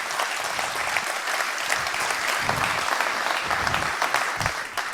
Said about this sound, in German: Kann ich bitte einen kurzen Applaus fürs VOC haben, die so grandios arbeiten. Danke, danke, danke.